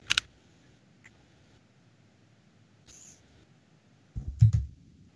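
Slow, hesitant typing on a keyboard: a few isolated key clicks spaced a second or more apart, ending in a quick cluster of heavier taps, close by with no talking.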